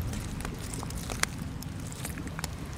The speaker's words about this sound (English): I think my favorite part of coming down here actually is sitting quietly and listening to the water come in, because you can hear it, the tinkling noise of broken glass as the water comes in. Usually around dusk it sounds more, the ambient music.